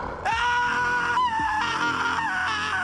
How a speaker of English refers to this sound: screamed at the top of his lungs.